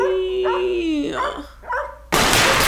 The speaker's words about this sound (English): Are you barking at a person?